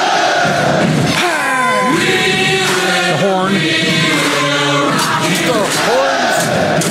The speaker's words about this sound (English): I actually only included that because you can hear the crowd noises with it, so it really kind of paints the picture. And because they were doing the whole stomp together as a beat.